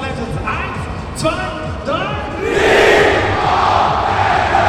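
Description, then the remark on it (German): A large indoor crowd at an esports event chants in unison, led by warm-up hosts, voices rising in rhythmic shouts that swell into a loud, roaring wave of cheering toward the end. “Die ganze Veranstaltung ist wie ein Sportevent aufgebaut, inklusive der Anheizer, die die Zuschauer mit Sprechchören in Stimmung bringen.”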